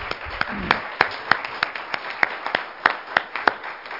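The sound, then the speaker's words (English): An audience, standing together, claps hands in praise to the Lord, a steady, fairly loud patter of sharp claps at an even, brisk rhythm with a crowd murmur faintly underneath. “Let's give the Lord a hand clap of praise as we stand together.”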